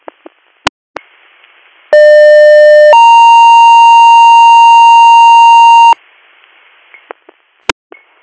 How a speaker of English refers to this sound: Do you want additional tones for your ambulance? Are you going to be able to field a crew? I'm not sure that we'll be able to, but we can do additional tones.